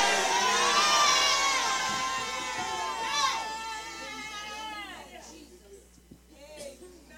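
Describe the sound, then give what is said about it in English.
An audience shouts amen together, a loud burst of many overlapping voices that swells at first, then trails off into scattered calls and murmurs after several seconds. “If you believe with me, shout amen.”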